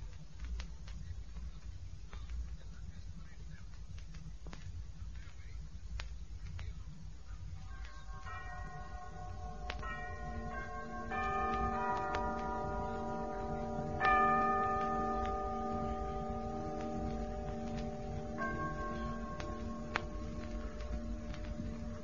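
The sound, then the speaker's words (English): A clock strikes with a series of ringing chimes that overlap and linger, each stroke sustaining into the next, after a stretch of low background hum and faint ticking. “What was that just struck?”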